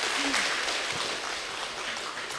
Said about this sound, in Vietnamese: Xin hãy cùng nhiệt liệt chào đón tất cả bằng một tràng vỗ tay thật lớn.